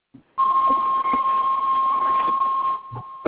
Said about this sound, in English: Hey, what's that beeping? I can't even hear nobody talk.